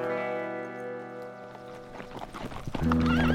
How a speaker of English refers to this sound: he heard horses approaching the front of the stables. By the sound, he determined it was more than a few horses, which aroused his curiosity.